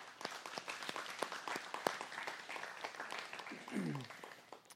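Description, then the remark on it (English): A crowd bursts into steady applause for the leaders, teachers and volunteers present, many hands clapping at once in a dense, sustained patter, with a brief voice rising over it near the end before the clapping starts to thin. “Can we just give a round of applause for everyone else here?”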